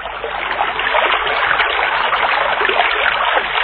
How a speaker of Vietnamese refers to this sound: Ơ mà hình như anh nghe có tiếng suối róc rách đâu đây nè. Đi thôi em.